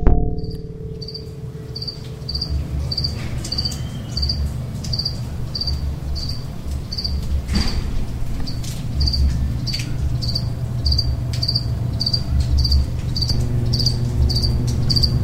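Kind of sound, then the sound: insect, cricket chirping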